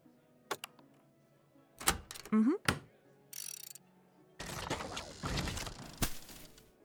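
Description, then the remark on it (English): A few sharp mechanical clicks and clatters, then a heavy 100-kilo sack of horse feed drops from the ceiling with a loud thump, followed by a few seconds of rustling, scraping noise. “Yep, that's a 100-kilo bag of horse feed. Well, of course it dropped from the ceiling.”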